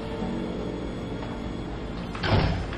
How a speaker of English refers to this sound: you may go and close the door. Yes, sir.